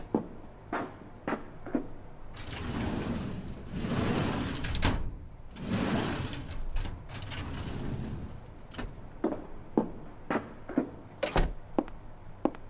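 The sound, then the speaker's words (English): Drawers of two red metal filing cabinets in a hallway rumble as they slide open and shut, a random drawer opened in each, with several long scraping runs in the middle framed by sharp clacks and thuds at the start and end. No one speaks. “Open a random drawer in each one of them, then come back in here.”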